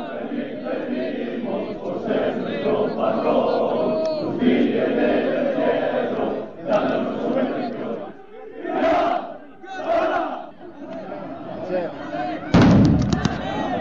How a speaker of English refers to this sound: On this day at Santo Domingo, the explosion of the rocket signifies the bulls have been released into the street.